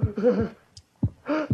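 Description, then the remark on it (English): Deep, muffled heartbeat thuds of a heart beating its last beats, about three of them at an uneven, slowing pace, while a wavering tonal drone swells and fades between the beats. “Listen to the heart beat its last beats.”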